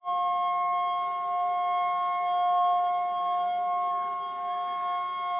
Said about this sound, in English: Just as Joe was getting ready to head for his first lesson of the day, a loud siren sounded.